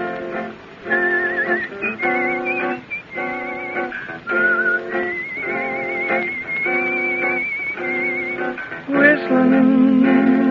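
The Varsity Three, dressed in chaps and spurs, perform a cowboy song: a human whistles a cowboy-style melody over steady, rhythmic instrumental backing. The whistled tune floats clearly above the accompaniment at a moderate level, with no one speaking.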